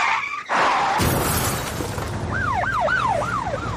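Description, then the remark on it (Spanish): Tires screech briefly, then a loud crash with shattering glass rings out as a car crashes in a traffic accident, followed by a wailing emergency siren rising and falling. “¿Ha sufrido un accidente de tráfico?”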